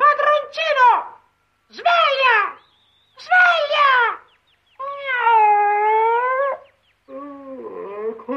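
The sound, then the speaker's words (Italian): A tabby cat meows five times in close succession, loudly, the early calls short and sliding downward, the later ones longer and more drawn out, with brief pauses between. “Chi è che ha parlato? Io, padroncino, il tuo gatto soriano!”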